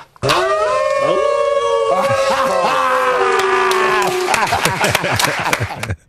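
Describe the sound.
Human voices imitate a wolf howl: loud, long wavering tones that rise and slide, several overlapping, breaking into shorter yelping cries before stopping abruptly.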